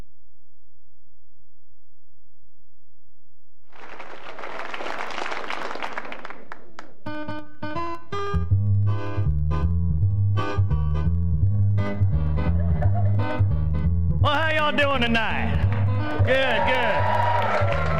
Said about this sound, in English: Applause.